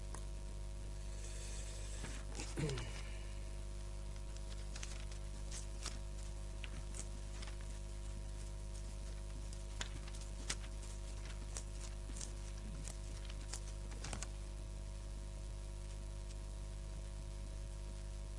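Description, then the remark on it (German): Pages of a book being flipped through, with short papery rustles and soft flicks at irregular intervals, fairly quiet over a steady low hum, with no one talking. “Ja, wir blättern sehr viel.”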